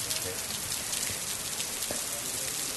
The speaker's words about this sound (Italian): Ecco, il suono che ascoltiamo in sottofondo è la pioggia che scende, che è un altro linguaggio dell'universo.